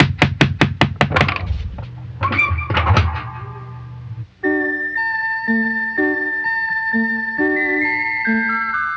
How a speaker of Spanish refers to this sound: ¿Y si tocamos la puerta?